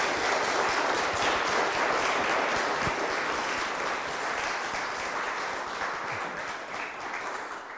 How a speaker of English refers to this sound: I think he deserves a round of applause for it.